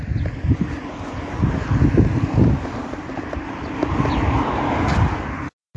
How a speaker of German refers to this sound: Kommt gerade kurz ein Auto. Wait a minute.